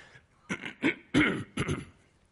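A man clears his throat several times in quick succession, a series of short, rough, gravelly bursts with brief pauses between them and no talking.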